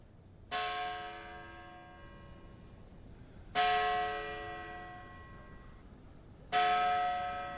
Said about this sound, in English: That's the bell atop Greenwood's carved Gothic entrance. It tolls whenever a new body is received at the storied cemetery, which opened in 1838.